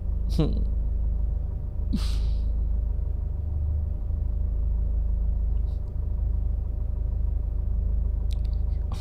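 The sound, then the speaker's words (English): A steady low rumble of a car driving fills the whole recording, like road noise heard from inside the cabin, with a few brief breathy sounds and faint voice fragments on top. “You know, it's not like I'm going to hit the car in front of me just by taking 1 foot of pedal, right?”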